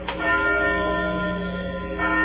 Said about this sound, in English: Bill, look up through that belfry. That bell's ringing.